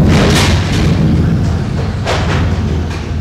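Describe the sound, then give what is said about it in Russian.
A fence around a citadel is blown down by an east wind: a heavy, booming low rumble runs throughout, with rough, crackling bursts of impact near the start and again midway, loud and with no voices. “Это ограда вокруг твоей цитадели. Ветер повалил ее.”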